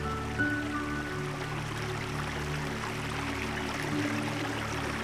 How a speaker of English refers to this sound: As the stream tumbled downhill, we followed its path until eventually it became wider and deeper.